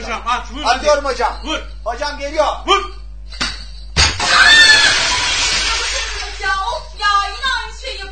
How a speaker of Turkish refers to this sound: Eyvah, cam kırıldı. Lütfen ortalığı toplayın. Nasıl şuttu hocam? Hocam mükemmel şuttu ama camı dağıttık ya. Camı dağıttım hocam. Ya camı dağıttık.